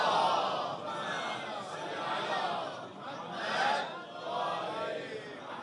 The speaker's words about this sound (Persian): برای سلامتی خودتون و زن و بچه هاتون بلند صلوات خط کنید.